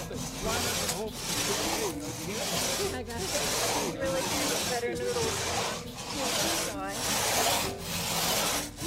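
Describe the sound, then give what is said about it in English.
Steady back-and-forth rasping of a crosscut saw biting through wood, loud, with rhythmic strokes roughly every second and faint voices in the background; participants in a crosscut saw certification course grab saws and work together. “I think we're ready for you guys to start grabbing saws and working together.”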